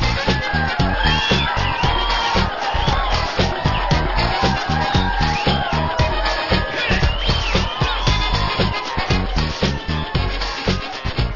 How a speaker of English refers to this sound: Thank you, ladies and gentlemen. I appreciate that round of applause. It makes us feel so good.